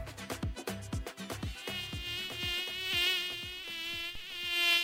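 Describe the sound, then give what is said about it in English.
A malaria-carrying mosquito's thin, high-pitched whine buzzes, rising and falling in pitch as it hovers and darts around looking for someone to bite, with a steady drone and no voices. “Could this be the most frustrating sound in the world? A mosquito, which bears the malaria parasite, looking for its next snack, you.”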